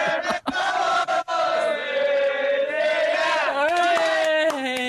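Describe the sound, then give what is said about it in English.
A big crowd of West Ham United football fans sings a terrace chant together, loud and continuous, their massed voices holding long notes and stepping up in pitch toward the end. “They're still going, Thomas. You can join in if you like. You start singing.”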